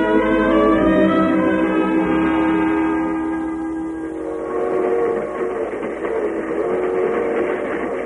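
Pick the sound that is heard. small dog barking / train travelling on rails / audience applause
train travelling on rails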